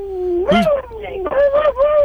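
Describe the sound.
A person imitates a howling dog, doing an impression of Grinch the Mean Time Dog, with one long, wavering, mid-pitched howl lasting about two seconds. It rises and dips in pitch, sounds loud, and comes with no other talk.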